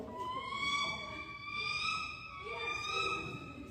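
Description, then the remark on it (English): A person imitates a bald eagle's call, a high, thin squealing cry that wavers and rises and falls in pitch, held almost continuously for a few seconds. “Oh, here's the eagle. This is a bald eagle.”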